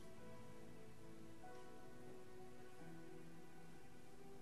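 Steady rain falls during the rainy season, a dense continuous patter with a faint droning hum underneath and no voices.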